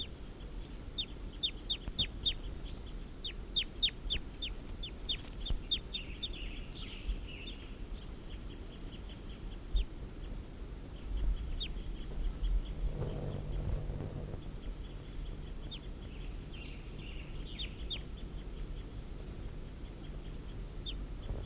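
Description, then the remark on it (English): Wild birds give quick runs of sharp, high clucks over a steady low rumble, busiest in the first seven seconds and sparser later, with a brief burst of rustling noise midway. “According to the wild birds have taken off. Two of the males were captured.”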